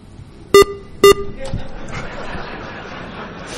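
Two short, sharp electronic beeps in quick succession from an RDS encoder being programmed, loud, followed by a low murmur of room noise and faint background chatter.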